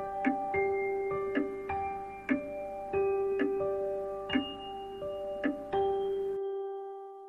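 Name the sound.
clock ticking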